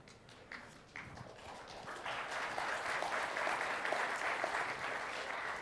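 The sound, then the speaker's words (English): Soft, scattered clapping from an audience at a talk on Framework 4.6, WPF and Roslyn. A few isolated claps come at first, then a steady low patter of applause that stays fairly quiet throughout. “That was a quiet applause.”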